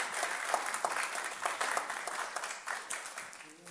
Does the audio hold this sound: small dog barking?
no